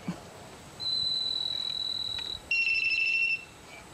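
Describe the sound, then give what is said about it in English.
A starling mimics a mobile phone: a faint buzz of the phone's vibration at the start, then a long steady high electronic tone and a second, slightly lower warbling ring tone, each about a second long. “That, I believe, is a mobile phone. Yeah. And you know the bit at the beginning? That's the vibration.”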